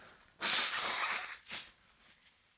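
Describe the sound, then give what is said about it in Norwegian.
Someone blows their nose: a long, loud, rasping burst of air through the nostrils, followed by a shorter second blow and a faint sniffly trailing breath. “Gi meg 2 sekunder, jeg skal bare snyte fjeset mitt.”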